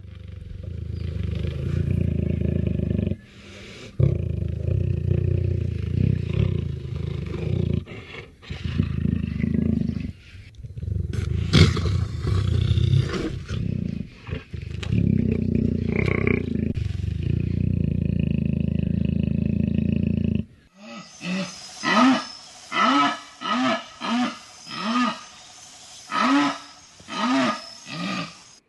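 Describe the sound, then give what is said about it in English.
A jaguar in the wild purrs in a long, deep, rumbling stretch broken by short pauses, then gives a rhythmic series of about ten hoarse, grunting calls, each loud and clipped, with no one talking. “Three different sounds there, from a jaguar purring, a couple other calls.”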